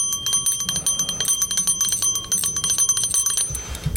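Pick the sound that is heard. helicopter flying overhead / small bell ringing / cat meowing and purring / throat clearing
small bell ringing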